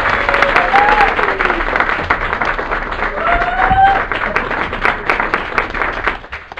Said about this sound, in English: First of all, I want you guys, as the audience, to give a round of applause. Large, loud!